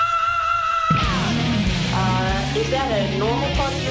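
A person screams loudly and continuously for several seconds, the raw voice rising and bending in pitch, close and forceful over a dense, steady background.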